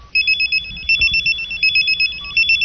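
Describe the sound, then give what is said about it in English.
A cell phone ringtone plays loud, a bright electronic warbling melody of rapid high-pitched tones pulsing steadily for a couple of seconds with no voices over it. “Sounds. Please, cell phone.”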